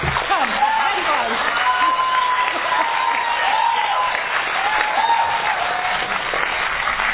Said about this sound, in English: Before we start, please can we just give a round of applause for everyone who's participating in this, the speakers.